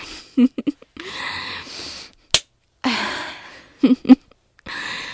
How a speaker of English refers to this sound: I like when you moan like that. You want me to slap it again? Like that?